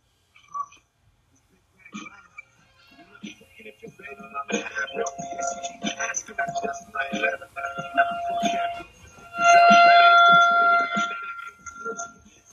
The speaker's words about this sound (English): That tornado siren is actually like, I'm looking at it. It's just right off over here, right off camera.